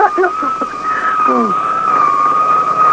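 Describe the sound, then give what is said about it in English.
A motorcycle police siren wails in a steady, drawn-out tone with a slight waver as the motorcycle comes down the road, loud and continuous throughout, while a voice briefly talks over it near the start. “Now, what's this here coming down the road? Looks like a motorcycle cop.”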